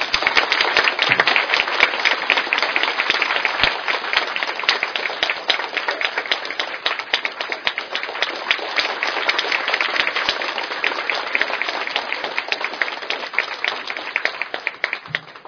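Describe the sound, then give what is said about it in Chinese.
Sustained audience applause given in thanks to a man who came despite being ill, a dense crackle of many hands clapping steadily for about fifteen seconds at an even loudness, fading slightly at the very end. No speech is heard over it. “那我真的要很感谢很感谢他，所以请大家给他鼓掌。”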